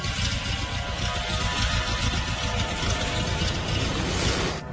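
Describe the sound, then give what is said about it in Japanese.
A horizontally opposed (boxer) car engine idles with a lumpy, uneven throb, echoing in an indoor parking garage, a steady rumble running continuously at fairly constant loudness, with no voices. “この独特の不等調なアイドリング音、そしてこのレスポンスのいい吹け上がりは水平対向のエンジン。”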